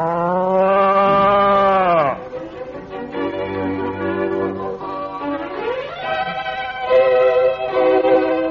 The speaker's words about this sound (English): Oh, there's nothing strange about it. It's a cow. What? Ma bought a cow by mistake.